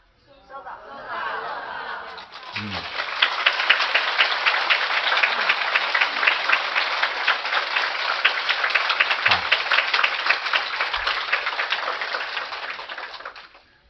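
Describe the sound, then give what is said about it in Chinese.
A crowd breaks into loud, sustained applause, a dense crackle of many hands clapping steadily for about eleven seconds before it tapers off abruptly. “越放松，越真诚，鼓掌的时候稍稍用点力气，你的疾病就出去了。”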